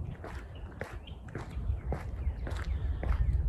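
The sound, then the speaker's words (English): Steady running footsteps thud outdoors at an even pace, about two strides a second, over a constant low wind rumble, with faint bird chirps in the background. No one speaks. “Birds, wind, footsteps.”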